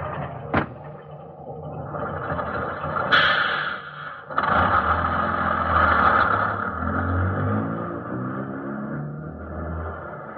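A bus engine rumbles and revs as it pulls away after its last trip of the night, heading to the garage, with a sharp door-like clunk early on and a steady low drone building, loud, no talking.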